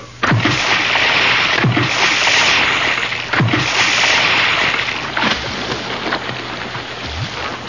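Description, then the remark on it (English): Water splashes in a steady rhythm, about every second and a half, over a continuous loud wash of moving water as two people enter a river with a raft and swim downstream with the current. No one speaks. “So me and the white one entered the river with the raft.”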